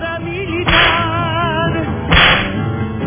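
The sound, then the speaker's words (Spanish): Two sharp whip cracks, about a second and a half apart, each a bright snapping burst over a steady musical bed with no talking. “Eso es lo que, por eso es que este programa le vamos a dar los latigazos.”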